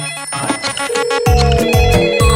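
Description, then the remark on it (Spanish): A radio station's telephone (La Punto 7) rings with a bright, musical ringtone melody, loud, repeating in rhythmic bursts with a steady sustained tone underneath. No one speaks. “Vamos a revisar nuestro teléfono.”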